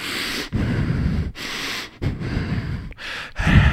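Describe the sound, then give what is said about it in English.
A voice imitates a man who has sat up breathing hard only through his nose with his mouth shut: five or six forceful, noisy breaths in steady rhythm, loud, with short silent gaps between them. “But he sits up and he's just breathing hard, just out of his nose. His mouth is shut.”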